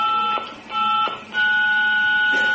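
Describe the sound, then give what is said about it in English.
A series of electronic answering machine beeps: three sustained tones with short breaks between them, the last one higher in pitch and held longer, sounding clear with no voices. “So please speak after the beeps.”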